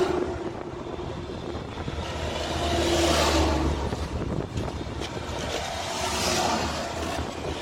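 A car engine runs steadily with a low rumble and broad road-like noise, swelling louder twice as if revving or passing, with no voices.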